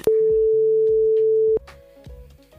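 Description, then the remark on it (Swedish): A single loud, steady telephone ringback tone sounds for about a second and a half as the Mix Megapol Göteborg morning show calls a friend in Jokkmokk in northern Sweden, then cuts off, leaving quieter tonal background sounds. “Vi ska ringa vår vän uppe i norr,”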